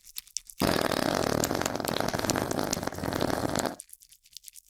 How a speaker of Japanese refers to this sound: くさいおなら。うんちくさいママのおなら。